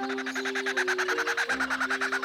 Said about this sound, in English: Let's listen to another. This is a kookaburra.